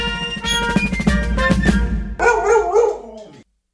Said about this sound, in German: Starten wir mit dem. Der Wuff der Woche.